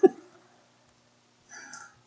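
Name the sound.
cough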